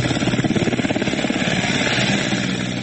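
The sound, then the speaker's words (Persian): A Taliban helicopter rescuing people stranded by floods in eastern Afghanistan: the rotor thumps in a rapid, steady beat over a broad engine roar, loud, with the chopping pulse easing slightly toward the end. “در یک ویدیو دیده می شود که شماری از افراد به سوی هلیکوپتر طالبان می شتابند تا به جای مسئول منتقل شوند.”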